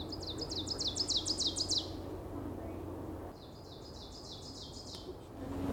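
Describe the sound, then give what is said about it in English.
An ovenbird, a ground-nesting warbler, sings beside a trail, two bouts of its loud, ringing song, each a rapid string of repeated two-note phrases building in strength, over a low steady outdoor rumble. “That's why they're called an oven bird.”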